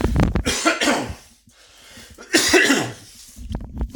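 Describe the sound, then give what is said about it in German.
Several harsh coughs clearing the throat, coming in two main bursts with short breaths between them, loud and with no talking. “Ich huste einmal ab.”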